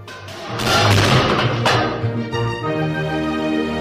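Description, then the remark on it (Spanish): A heavy object crashes to the floor inside a cabin with a loud thud and a rumbling burst of noise, then a sustained, eerie ringing tone lingers afterward. “¡Bum! Se cayó algo al suelo, en el momento exacto que Lola entraba en la cabaña.”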